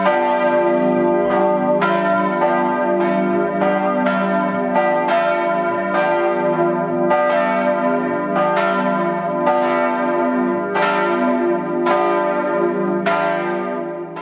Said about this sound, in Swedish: Jag hörde nästan kyrklockorna ringa.